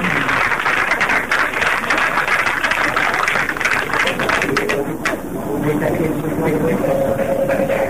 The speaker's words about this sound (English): There was a bit of applause here in Mission Control.